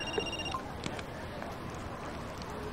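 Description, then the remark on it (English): A telephone rings with a short burst of bright electronic tones, then stops, leaving a steady hiss of background noise. No one speaks. “Jackson reaches for his phone.”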